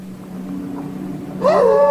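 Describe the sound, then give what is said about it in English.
A steady low hum fills the background, then near the end a single loud, high whining yelp rises and slides downward as the wolf Black Wolf, in a cave, leaps onto a wall of ice with his claws and slips back down. “Now in the cave, Black Wolf leaps onto the wall of ice with his claws but slips back down.”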